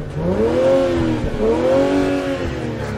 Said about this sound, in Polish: Co w tym samochodzie sobie cenisz? Gaz. Zobaczycie jego sound.